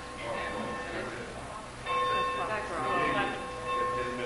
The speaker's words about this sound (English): Is that the bell? Someone's cheating, it's 2:15.